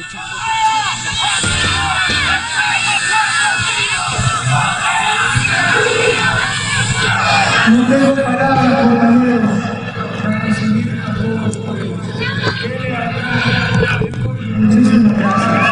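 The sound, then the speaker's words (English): A huge crowd cheers and shouts without pause, a dense roar of many voices that stays loud throughout, swelling slightly in the second half with scattered higher yells rising above it. The crowd, opposing a coup attempt, greets President Correa as he returns to the presidential palace in Quito. “time, President Correa returned to the presidential palace in Quito before huge cheering crowds opposing the coup attempt, where he gave this address, recorded here in part from Al Jazeera's coverage and translation.”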